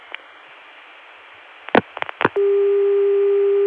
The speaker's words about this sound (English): Now, the same dial tone can be gotten through 454, and here